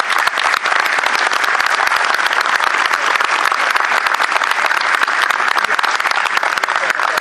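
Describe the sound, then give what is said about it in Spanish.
Sustained audience applause for award recipients fills the whole stretch, a dense, steady wash of many hands clapping at once, loud, with no speech over it. “Un aplauso para ellos.”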